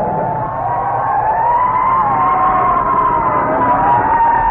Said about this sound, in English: There comes a fire truck behind it. I got to pull over!